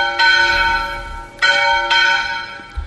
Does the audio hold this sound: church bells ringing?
yes